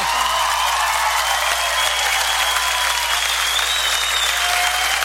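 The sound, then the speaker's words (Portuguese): Steady, dense applause from an audience fills the whole stretch, loud and sustained with no pauses, like a crowd clapping continuously; no one speaks over it. The applause is for Anomar da Nuvem Vieira of Livramento on a gaúcho nativist music special programme. “Filho de Livramento, uma salva de palmas para esse grande nome, Anomar da Nuvem Vieira.”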